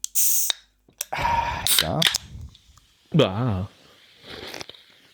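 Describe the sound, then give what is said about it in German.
A sharp pop and a burst of fizzy hiss as a can of cola is cracked open to drink from, followed by a few crisp clicks, with voices talking in between. “Achso, nee, ich trinke aus der Dose, würde ich sagen. Ja. Ah, ich mach mal auf.”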